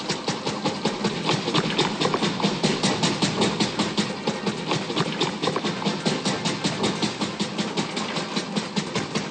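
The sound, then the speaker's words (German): A loud early car engine chugs steadily with a rapid, rhythmic clatter, running continuously with no voices over it. “Die ersten Fahrzeuge machten einen Höllenlärm und sie stanken fürchterlich.”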